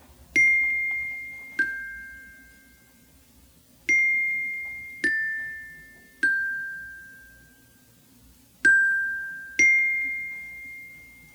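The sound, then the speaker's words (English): Seven single xylophone notes, slowed down, each struck clearly and left to ring out with a long, bell-like decay, spaced unevenly in a slow, alternating high-low pattern with no voices. “Those are single notes on the xylophone.”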